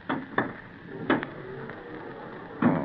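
Glass doors slide and shut in a series of sharp clunks and thuds, two quick ones, a louder pair, then a final heavy knock over a low mechanical rumble, with no voices.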